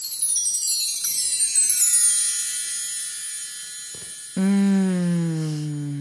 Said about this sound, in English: Every time you do the chimes, I feel like I literally feel like it leaves my body. Oh, it's chimes. It's chimes. No, it leaves the room with the chimes. It's digital sage. It's digital sage.